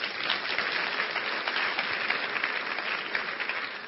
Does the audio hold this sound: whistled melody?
no